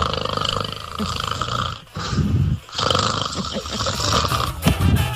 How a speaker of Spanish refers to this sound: Ya, por ahí ya está roncando.